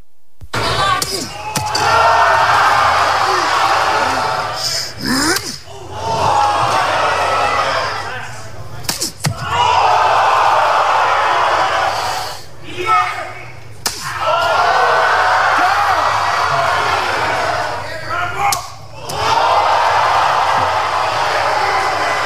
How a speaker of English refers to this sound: And they get a free shot. They get three slaps per the whole, like, I guess, fight round.